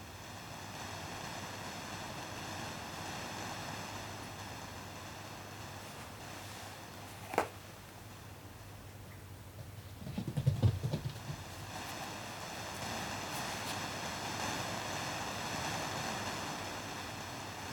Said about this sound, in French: Et tu peux imaginer ces vagues qui descendent de plus en plus.